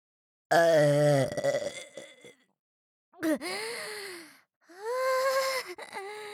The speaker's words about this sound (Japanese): ああ、もう、ダメだ。我慢できねえ。また一発、でっけえザーメンゲップ花火、打ち上げてやるから、ちゃんとその耳かっぽじってよーく聞けよ。